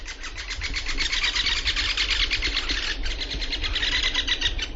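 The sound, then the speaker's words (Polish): Woodpeckers drum on trees in a forest in spring, the males seeking partners: rapid, rattling rolls of sharp taps, one long burst then another after a brief pause, steady and fairly loud over a low background hum, with no talking. “Proszę posłuchać, jak te dzięcioły się zachowują.”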